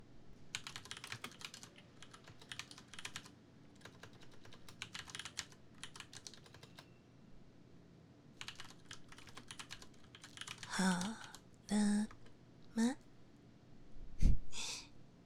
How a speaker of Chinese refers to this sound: 那个游戏有那么重要吗？就让你打字一下哦。